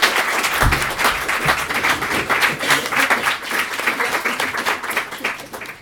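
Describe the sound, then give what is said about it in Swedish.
An audience breaks into sustained applause for a panel, a dense, steady wash of many hands clapping at a fairly loud level, with a few brief low thumps early on. “En stor applåd för panelen!”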